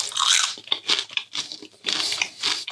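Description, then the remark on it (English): Crisp biting and crunchy chewing of truffle-flavored food, a series of sharp, bright crackles in quick uneven bursts, fairly loud, with no talking. “Let's try truffle.”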